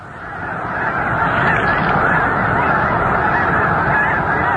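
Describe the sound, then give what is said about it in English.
A vast flock of roughly 50,000 snow geese on their annual southward migration honks and gabbles continuously in a marsh at Squaw Creek National Wildlife Refuge, northwest Missouri, about 100 yards away, a dense, steady wall of overlapping calls, with no voices present. “100 or so yards away, roughly 50,000 birds paddle and gaggle in a marsh.”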